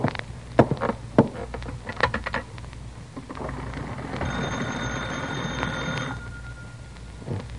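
An old wall telephone: a series of sharp clicks and knocks, then a single metallic bell ring lasting about two seconds, followed by quiet rattling.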